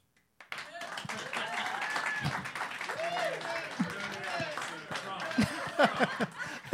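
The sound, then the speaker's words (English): An audience breaks into a round of applause lasting several seconds after a movie title is said, scattered clapping mixed with overlapping voices, chatter and a few laughs, steady throughout. “I just never heard a title said with so low energy get a round of applause.”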